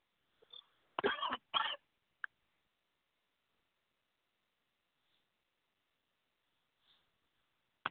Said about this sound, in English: I gotta stop coughing. Oh man, sorry about that, y'all. But it wasn't too bad for you. Whatever I swallowed, like it's in my throat. I'm trying to get it out.